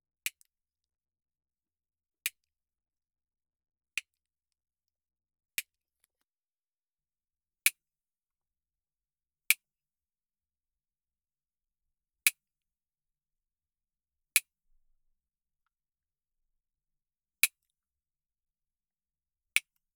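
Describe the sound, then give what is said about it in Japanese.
Sharp, crisp clicks of the nails on the right front paw of a cat, Nyanta, being clipped short, ten snips spaced about two seconds apart, each a brief bright snap with quiet in between and no talking. “こっちも結構伸びてますな。ちょっと短くしちゃうね。”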